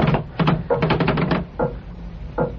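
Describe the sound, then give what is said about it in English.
A door is rattled and worked: several loud, clattering bursts, with a longer run of rapid knocking in the middle, as if someone is struggling to get it open. “Where's the key? In the door.”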